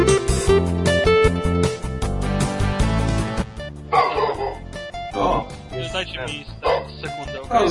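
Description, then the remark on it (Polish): A dog barks repeatedly, short loud yaps coming in uneven bursts through the second half, after a dense, noisy stretch at the start. “Trzeba psa zakneblować.”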